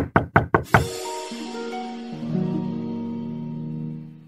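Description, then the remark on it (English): Four loud, quick knocks rap on a door in a steady rhythm, followed by a sustained musical chord that swells and rings out before fading. “Just then, we heard a big knock on the door.”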